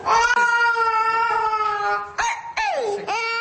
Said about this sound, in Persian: و اما با وجود این همه وضع بحرانی صدای گریه خردسالترین داماد